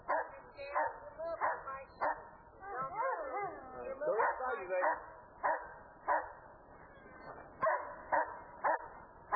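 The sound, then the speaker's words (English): A guard dog, placed in a watch position over an assailant, barks repeatedly in loud, sharp, insistent bursts in a steady rhythm, with a brief whining, growly stretch partway through. “Susie's placed the dog in a watch position and told the assailant not to move.”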